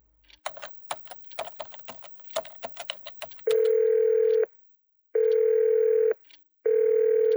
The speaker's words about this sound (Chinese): 单位电话占线，文秋一阵烦躁，只得扣下。